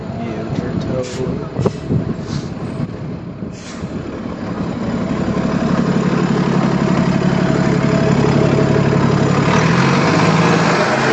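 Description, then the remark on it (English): A city bus engine idles with a heavy, steady rumble that swells louder midway and holds as a droning roar, on a snowy street in Flatbush, Brooklyn, with scattered street clatter and indistinct voices early on. “Here comes another bus.”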